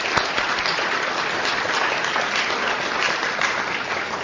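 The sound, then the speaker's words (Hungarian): Sustained applause from an audience, a dense, even wash of many hands clapping at steady loudness throughout, with no voices breaking through. “Köszönjük szépen, szabad tapsolni.”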